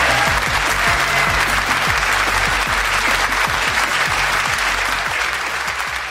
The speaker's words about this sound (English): And then we'll put in, like, some people applauding over the top of that as if it was going well.